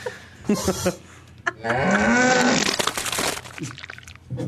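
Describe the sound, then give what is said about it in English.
A cow mooing sound effect played on the show Roundabout: a drawn-out moo, low and wavering, rising slightly in pitch over about two seconds, wrapped in wet crackling and crunching noise before and after. “Cow ought to check its pants.”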